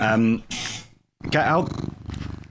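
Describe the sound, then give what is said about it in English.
A cat purrs right up close to the microphone, a steady rumbling sound broken by a short pause, with a few brief cat vocal noises mixed in and no one talking. “Yeah, and I think, and my cat's just joined me, thank you very much.”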